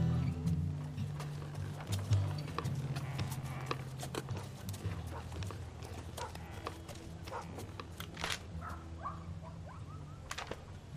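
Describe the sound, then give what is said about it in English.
Horse hooves clip-clop in an uneven, steady stream of sharp knocks, over a low droning hum that fades after the first few seconds; a faint bird chirps now and then. “Four horses, a chicken coop”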